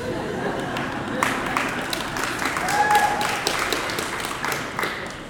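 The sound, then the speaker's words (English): A crowd claps steadily for several seconds at an Easter morning sermon, a dense wash of many hands, fairly loud and continuous with a faint murmur of voices underneath. “Secondly, I would like to tell you we are in a mind this joyous Easter morning to applaud.”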